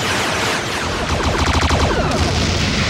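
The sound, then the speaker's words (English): A dense barrage of sci-fi pistol blasts, loud, with rapid overlapping shots merging into a continuous volley that intensifies partway through, as Klingons fire their pistols at a changeling. No one speaks. “Martok tries to tentacle Odo to death, but the Klingons all turn around and whip out their pistols and unload, like, a predator amount of gunfire at the changeling.”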